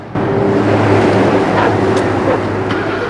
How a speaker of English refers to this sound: Sam watches the coroner's car as it drives away. The ambulance follows.